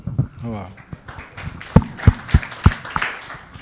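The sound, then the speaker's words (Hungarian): A series of dull, heavy thumps in a steady rhythm as someone tries to clap, landing with a bassy thud, with people speaking faintly around them. “Próbálok tapsolni közben, csak dübögök, ugye?”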